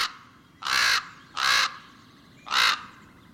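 Three loud, harsh raven croaks ring out one at a time with short pauses between them, clear against faint background ambience, with no talking.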